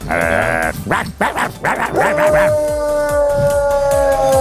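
A dog howls and cries in long, wavering tones that rise and fall, with short whimpering yelps mixed in; the sound is loud, and there is no talking.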